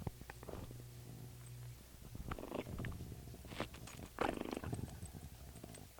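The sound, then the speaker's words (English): A dog named Mike growls low and rumbling in uneven bursts while chewing on a rawhide, with wet chewing and gnawing sounds in between, fairly quiet with no talking. “Now I'll have a few words of growling from Mike if he's chewing on a rawhide, and I'll end this up by letting you listen to him growl a little, okay?”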